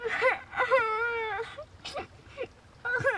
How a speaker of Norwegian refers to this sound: Hør, det er noen som gråter. Barna ser seg rundt. Hvor kommer den lyden fra?